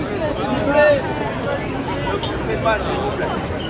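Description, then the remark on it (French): A dense crowd waiting in a queue murmurs and chatters together in a steady, continuous hubbub, many overlapping voices with no single speaker standing out, rising slightly in bursts of restless commotion as the line moves. “Mais quand au bout de ces 100 ans d'attente ressentie, il y a du mouvement, ça donne ça.”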